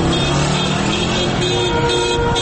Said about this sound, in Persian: در تهران حالا هوا رو به تاریکی رفته و معترضان کم کم به خانه هایشان بر میگردند. خبر کشته شدن 2 نفر دهان به دهان پیچیده و معترضان عصبانی هستند. دستشان را روی بوق ماشین هایشان گذاشتند و همزمان فریاد میکشند.